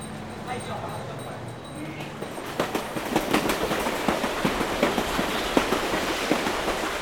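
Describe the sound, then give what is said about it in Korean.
A train rolls steadily along the rails through fields in the Netherlands on a sunny spring day, its wheels clacking in a quick repeating rhythm over a constant low rumble; the clatter grows sharper and more regular after the first couple of seconds. “기차에 몸을 싣고 네덜란드의 들판을 달렸다.”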